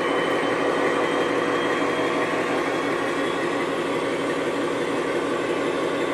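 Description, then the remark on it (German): A steady, dense mechanical roar of a World War II U-boat's diesel engines hammering continuously as the boat runs surfaced in the North Atlantic in winter in heavy seas, with a rhythmic low pounding underneath, loud, with no voices. “Boot im Nordatlantik bei Überwasserfahrt. Starker Seegang. Die Diesel hämmern.”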